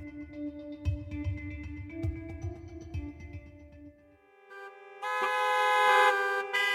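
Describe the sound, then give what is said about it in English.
Several car horns honk in a New York City traffic jam over a low rumble of traffic, overlapping sustained tones, then a louder, brighter blast of horns takes over near the end. “And finally, New York City is now the world's third most congested metropolitan area, and the traffic jams are dragging on the economy.”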